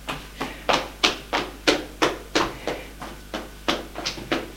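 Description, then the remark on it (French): Someone raps steadily on a bedroom door, about a dozen sharp knocks in an even rhythm, roughly three per second, with no voices. “Frappe à sa porte.”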